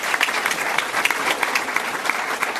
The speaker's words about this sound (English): Round of applause for Superintendent.